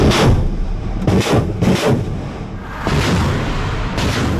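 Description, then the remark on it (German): Repeated heavy booms of Russian artillery and rocket launcher fire in eastern Ukraine, several sharp blasts in quick succession over a loud rumbling background, with no voices present. “Nämlich mit immer neuen russischen Angriffen. Nicht nur, aber weiter mit Schwerpunkt im Osten der Ukraine. Mit Raketenwerfern, mit Kanonen, aber auch mit Drohnen und Marschflugkörpern.”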